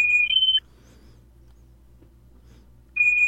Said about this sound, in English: He looks down, sees it kind of beeping, and he just kind of shakes his head and like clicks it off.